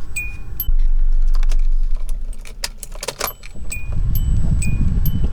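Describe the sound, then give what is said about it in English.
Car keys jangle in a series of bright metallic clinks, over a low rumbling car engine hum that swells toward the end, as someone gets into a car to drive off. “All right, where's my keys? Put them in the car.”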